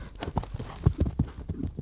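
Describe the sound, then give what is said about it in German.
Horse hooves clip-clop in a steady, moderately paced rhythm, several hoofbeats in a row, with no talking over them. “Es wollte was erleben und deswegen ging es auf eine lange Reise.”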